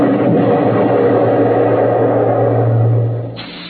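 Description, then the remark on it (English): A loud, steady rush of steam-like hissing from bursts of steam through the steering tubes of the starship Starfire as it maneuvers to dodge enemy attacks, over a deep mechanical hum, sustained for a few seconds before abruptly dropping away; no voices. “We could hear the desperate bursts of steam through the steering tubes as the Starfire maneuvered to dodge the enemy attacks.”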